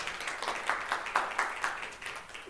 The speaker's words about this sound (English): Thank you, one woohoo. Well, I think only like two. Thank you. There's the other woohoo. There were 2 whole people. Oh, come on, clap. You can clap for Spring Retreat.